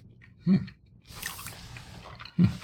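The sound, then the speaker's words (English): Moist chewing of Parmesan cheese: two soft low bites with crunchy, smacking mouth sounds between them, and no one speaking. “And if it goes good with pasta, it should go good with the Parmesan cheese alone, right? Good cheese, by the way.”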